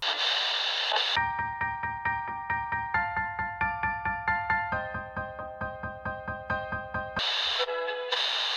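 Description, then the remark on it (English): A loud burst of radio static opens, gives way to several seconds of steady, pulsing musical chords, then crackling static returns to close it out. No one speaks. “Hit the static.”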